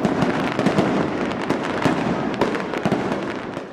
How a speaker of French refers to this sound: Il y a de la musique, des groupes de danse, des comédiennes, beaucoup à manger et à minuit il y a des pétards.